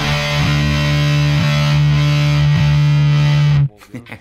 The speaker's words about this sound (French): La grande coup de distorsion, fils de punk.